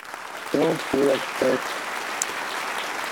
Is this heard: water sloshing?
no